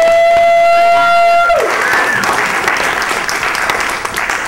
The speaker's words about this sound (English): But I want to be the first one to welcome you to New York Comic Con 2010. Yeah. Let's do an applause.